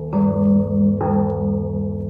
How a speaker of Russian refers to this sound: Гонги из Индонезии и Японии.